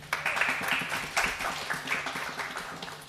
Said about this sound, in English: Round of applause.